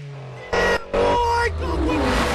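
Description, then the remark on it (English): A powerful engine of an Evo car revs hard in two loud bursts, then settles into a sustained, rising roar as the vehicle accelerates away, prominent throughout. “Brian revs the Evo as the Challenger speeds home.”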